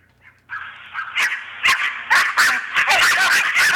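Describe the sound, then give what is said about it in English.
Several dogs, let out in a neighbouring yard, bark and yip in a rapid, continuous jumble, overlapping one another with no pause, some higher-pitched yelps and whines mixed into the steady barking. “That's what we hear all the time whenever the dogs are out. It's constant.”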